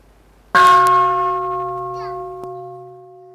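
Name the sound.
mindfulness bell ringing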